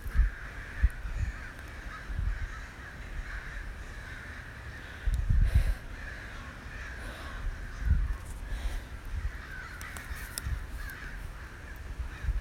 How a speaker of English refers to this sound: I'm scared, you guys, but look, listen to all those crows.